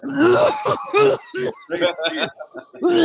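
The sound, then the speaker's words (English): A person imitates a harsh coughing fit they had during a sparring round, about eight rapid, raspy, voiced hacks in quick irregular succession, loud, with no actual words spoken. “And when I tell you coughing, it was like this.”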